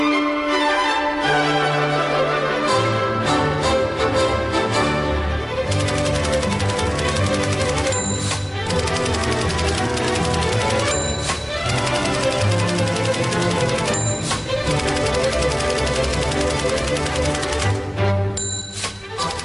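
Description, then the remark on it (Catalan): Rapid typewriter keystrokes clatter in quick bursts, with occasional bell-like dings, over loud, steady tonal music that plays throughout without pause. “De fons, el so de la màquina d'escriure, inigualable, eh?”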